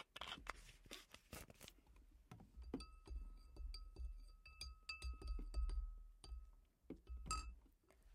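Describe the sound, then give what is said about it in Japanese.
Glasses of umeshu (plum wine) clink together in a toast, a bright ringing chime that lingers with a sustained tone, preceded by some handling noise and followed by a few lighter taps, fairly quiet. “じゃあ乾杯。”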